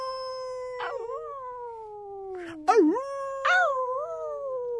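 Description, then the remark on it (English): A human voice imitates a dog's howl, "aroo", opening an outdoor dinner theater performance staged beside a truck: one long, sustained, wavering tone that dips and rises in pitch several times, loud and steady with no other sounds. “And then I begin with, aroo!”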